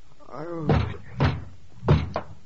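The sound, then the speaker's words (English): Loud, heavy pounding on a door by the police: three hard thuds spaced about half a second apart, then a quicker fourth blow. A brief voice is heard just before the first strike. “Oh, don't tear the door down. I'm coming.”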